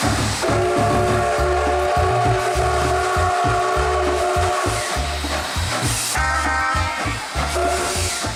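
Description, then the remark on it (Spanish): A train rolls steadily along the rails with a fast, regular clickety-clack rhythm and low rumbling, overlaid by sustained tonal horn-like notes, loud and continuous throughout with no talking. “Yo crecí imaginando, de tanto escucharla, cómo sería subirse a un tren durante 18 horas y llegar a un lugar en el que había mar.”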